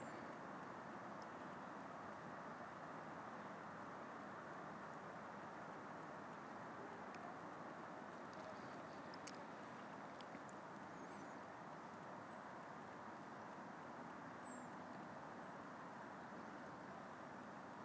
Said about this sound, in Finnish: Vähän taustalta kuuluu liikenteen huminaa ja joitakin lintuja, mutta ei muuta. Oikein rauhoittavaa.